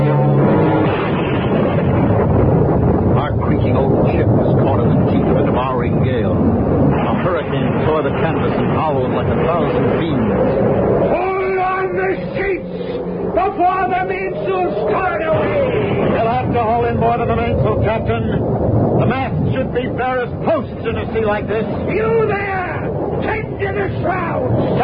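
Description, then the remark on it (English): A stormy sea roars with howling wind around a sailing ship in a loud, unbroken wash of noise, while agitated voices shout over it through the second half. “The sea's gone mad.”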